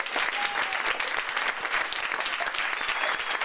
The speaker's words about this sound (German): Einen ganz großen Applaus, bitte schön